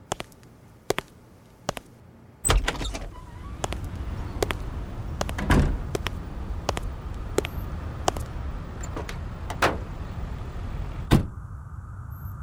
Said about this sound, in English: Who's that, I wonder? It's an army staff car.